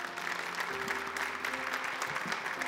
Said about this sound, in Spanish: Denle un aplauso a Dios por la vida de ellos.